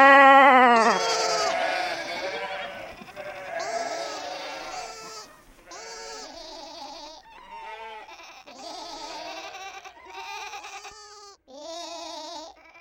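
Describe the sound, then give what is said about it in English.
A flock of sheep in a theater bleat repeatedly, several overlapping wavering cries in quick succession, fairly loud, with no talking. “And as the sheep suddenly go quiet, a silence reigns, and the theater darkens.”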